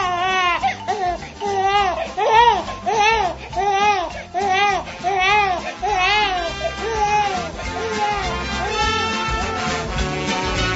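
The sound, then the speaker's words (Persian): Several newborn babies wail at once, overlapping high, arching cries that rise and fall in repeated bursts, loud, with no adult talking. “فقط فعلا زبان نینی ها را متوجه می شوم، چون همه شان برای حرف زدن به زبان مادری گریه می کنند.”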